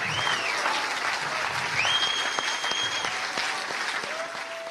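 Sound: audience whistling amid applause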